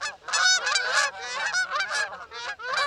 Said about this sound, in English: Now, sit back, relax, and enjoy one of the most calming sounds in all of nature. Honking geese.